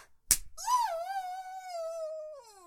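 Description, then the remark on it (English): A single sharp slap of a hand on bare skin, immediately followed by a long, drawn-out vocal moan that rises and then slowly trails off. “Slap my tits, too.”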